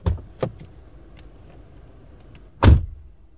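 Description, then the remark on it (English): The door of a new, luxurious minivan thuds shut with a solid, heavy close near the end, preceded by a couple of lighter clicks and mechanical latch sounds over a quiet background hum. No one speaks. “Even the sound of the doors says luxury.”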